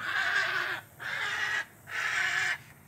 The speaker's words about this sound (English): These bad boys will just be behind you. You don't know it. And they let out a nice heron squawk, which sounds very much like a dinosaur.